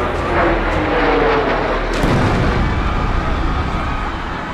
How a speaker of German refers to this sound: American Airlines Flug 11 rast in den nördlichen Turm des World Trade Centers in New York.